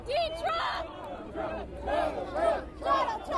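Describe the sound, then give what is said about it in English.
A large crowd of supporters roars and cheers in repeated swelling waves as Donald Trump arrives near the state fairgrounds, many voices shouting together with a steady hubbub of babble underneath. “Trump landed near the fairgrounds and offered rides to children before arriving to a wild reception by a crowd of supporters.”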